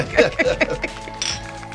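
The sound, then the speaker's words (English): Glasses clink together in a toast, a few quick bright taps, with voices murmuring around them. “Cheers to that. Mm. Fucking cheers.”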